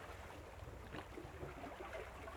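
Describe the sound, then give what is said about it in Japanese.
Ocean water washes and splashes in a steady, hissing rush, with a brief stronger surge about a second in. No one speaks. “音もええね。ザザーン、ザザーン、チャプン、チャプンって、大きな海の音じゃね。”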